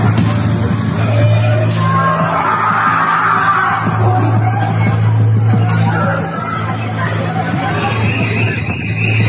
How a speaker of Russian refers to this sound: На ім чуваць, як людзі крычаць з-пад завалаў.